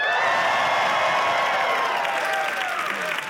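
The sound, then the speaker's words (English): A large Life Church audience yells and cheers together when asked to, a dense, sustained roar of many voices with scattered whoops and possible clapping, loud and continuous for a few seconds. “In Christ, you are unstoppable. Now everybody yell.”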